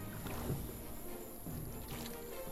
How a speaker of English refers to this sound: Sinbad and Yasmin row all night.